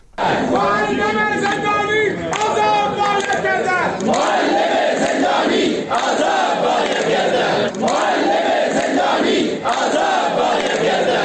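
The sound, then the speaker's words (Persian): A large protest crowd of working and retired teachers in Iran chants in loud, rhythmic unison, with repeated shouted phrases rising in bursts every couple of seconds over a constant roar of voices. “بنابر تصاویر منتشر شده در شبکه‌های اجتماعی، تجمعات فرهنگیان شاغل و بازنشسته در استان‌های غربی ایران چشمگیر بوده، از جمله در شهر سنندج.”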